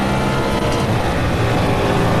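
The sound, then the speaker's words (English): A race car engine roars loudly and continuously at high revs as the driver gets hard on the accelerator out of the bus stop during a lap, steady throughout, with a dense rumbling drone and no voices. “Pick up the throttle way early with this particular car. Get hard on the accelerator”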